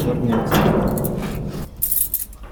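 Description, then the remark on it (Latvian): Keys jingle and scrape as a representative of the Karosta rescue society works open the door lock of the Redan fortress museum in Karosta, with a clatter of metal followed by bright, brief clinks and light rattling. “Redana cietokšņa muzeja durvis atslēdz Karostas glābšanas biedrības pārstāvis”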